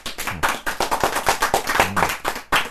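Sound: clapping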